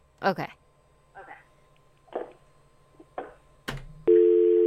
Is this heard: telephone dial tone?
yes